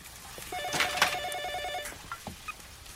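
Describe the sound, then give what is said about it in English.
A telephone rings with a single rapid, warbling trill lasting about a second, clear, followed by a few faint clicks and knocks. No one speaks. “gets the phone call that her husband's been killed and makes a big old scene upstairs”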